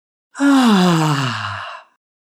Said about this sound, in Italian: Emettere con un buon volume una A sonora di rilassamento mentre si espira.